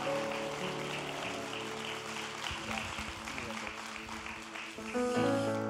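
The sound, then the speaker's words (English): A church audience applauds its communicators steadily for several seconds, a dense wash of clapping over sustained musical chords, swelling slightly louder near the end. “Could you give our communicators some applause today?”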